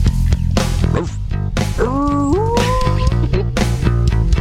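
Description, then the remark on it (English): A person imitates a dog with a drawn-out, rising yelp partway through, set against loud, steady rhythmic sound with regular pounding beats. “Dog right here. Uh-oh. The cat was believable, the dog not really.”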